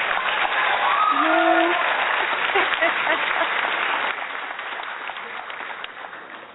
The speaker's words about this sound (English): Wait, let me find the applause. Don't say anything yet. Wait, where is it?